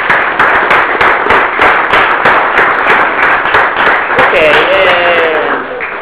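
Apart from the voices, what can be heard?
audience applause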